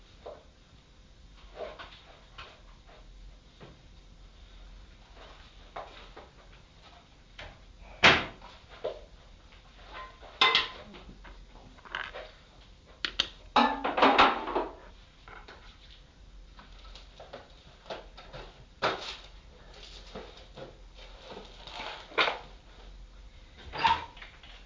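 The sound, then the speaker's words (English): A kitchen drawer, the middle one, is pulled open and pushed shut several times, with sharp wooden knocks and a longer rattling slide midway, against a quiet background with no talking. “Yeah, shut the middle one because of the dog.”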